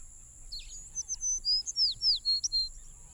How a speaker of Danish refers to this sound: I det fjerne hørtes fuglekvider. Det var fuglene, der sang godnat i den afrikanske jungle.